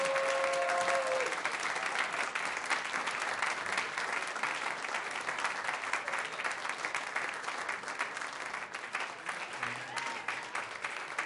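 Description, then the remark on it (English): Sustained audience applause for the Ntasiji Munoz Quartet, a jazz quartet, with special guest Paul Schaefer: a dense steady wash of many hands clapping for about eleven seconds, with a brief high whistle near the start and faint voices mixed in. “I want to hear some applause to the Ntasiji Munoz Quartet.”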